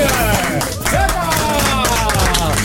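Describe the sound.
Steady applause for the studio guests of the Chéri FM morning radio show fills the whole clip at a constant loud level, mixed with cheering and overlapping voices that rise and bend above the dense clatter of hands.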